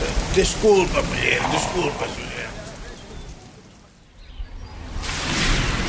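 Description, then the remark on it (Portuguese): Steady rain falls with a dense, hissing patter, faintly overlaid by voices at first, then easing briefly before the downpour swells back up loud. “Assim que a chuva parar, vou começar com os trabalhos agora mesmo.”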